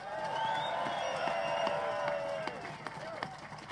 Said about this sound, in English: And so let's give John Effort Jr. a big round of applause.